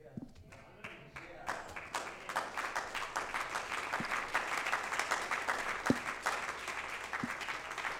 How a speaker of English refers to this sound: You need to keep clapping because I'm preaching right now. I'm not talking, but I'm preaching.